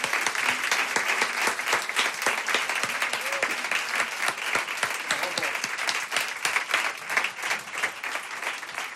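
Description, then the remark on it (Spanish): A crowd applauds steadily, a dense wash of many hands clapping at once that holds an even, fairly loud level with no voices on top, for the projection group Lemot, Alex and Pablo. “Un aplauso grande. Un aplauso para ellos.”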